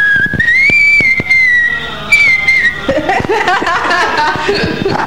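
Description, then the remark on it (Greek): A person whistles a wavering tune with their mouth, the sustained pitch sliding up and held, then breaking into quicker notes mixed with chuckling and background chatter. “Τι σφυρίχτρα κανονική με το στόμα σφύριξε.”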